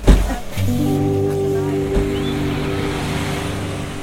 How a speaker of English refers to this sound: Yeah, well, the birds were chirping, and since this was all pre-corona, the parking lot was packed with visitors, clambering in and out of humming tourist buses.